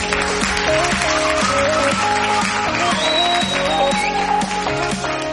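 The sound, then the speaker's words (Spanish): Steady crowd applause, a dense crackle of clapping, runs throughout alongside a loud musical jingle with stepping melodic notes. No one speaks. “Hola, gracias de verdad por esos aplausos, gracias por tanto cariño”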